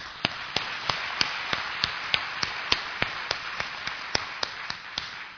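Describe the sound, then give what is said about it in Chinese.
Attendees of a gathering of brothers and sisters from several churches applaud themselves, a dense wash of scattered clapping with sharp, evenly spaced beats about three per second running steadily through it, moderately loud, with no voices. “所以我们要自己鼓励自己，我们鼓掌。”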